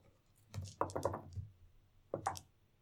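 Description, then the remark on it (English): New dice clatter across a hard surface in a quick burst of sharp, bright clicks and taps, then a second shorter rattle follows after a brief pause; they are rolled for a Wits perception check. “I'm going to use the new dice.”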